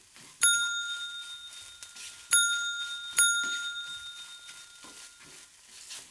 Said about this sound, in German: Da ertönte schrill die Klingel.